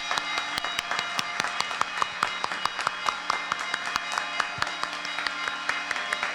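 A standing crowd applauds steadily, many hands clapping in a dense, continuous patter with sharp individual claps standing out throughout, fairly loud and without any voices.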